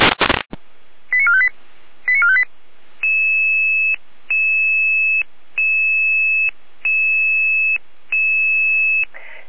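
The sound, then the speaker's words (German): German fire service radio dispatch alarm tones from the Jena control centre, alerting units to an automatic fire alarm at a plastics recycling company in Saalfeld: a burst of static, two quick warbling tone sequences, then five long steady beeping tones in an even on-off rhythm, loud with no talking. “Leitung Jener Alarm.”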